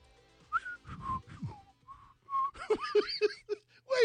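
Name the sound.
person whistling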